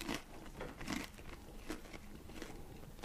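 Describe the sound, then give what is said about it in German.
Crisp crunching as someone bites into a crispy pizza burger baked in a large oven, crunchy on both sides: a handful of crackly bursts at an uneven rhythm, fairly quiet, with no talking. “Ja, aber es knuspert schön von beiden Seiten.”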